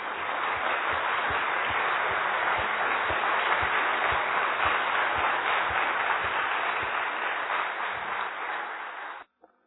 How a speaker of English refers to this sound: So if you would like to give a little round of applause for Jenty.